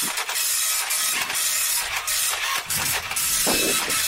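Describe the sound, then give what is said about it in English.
A dot matrix printer prints steadily on paper with little holes along the side, a loud buzzing, rasping chatter with brief pauses and shifts as the print head sweeps back and forth. No one speaks. “People sitting at home just listening to the noise of a printer.”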